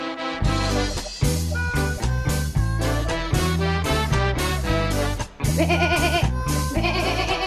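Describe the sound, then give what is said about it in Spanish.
A small sheep from Chubut, kept in the city of Buenos Aires, bleats loudly and repeatedly while standing on a table, a series of wavering, quavering calls with little pause between them and no one talking. “es nuestra oveja, que ahí los está saludando.”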